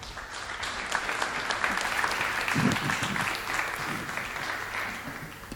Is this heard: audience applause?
yes